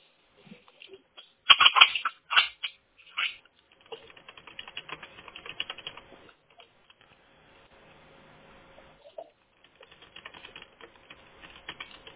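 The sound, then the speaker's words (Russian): Plastic clicking and scraping as a ballpoint pen pokes at a device's reset button to restart it: a few sharp knocks early, then quick light ticking over a faint steady hum. “Там, по идее, можно обычной ручкой шариковой. А, все. Не лезет шариковая ручка.”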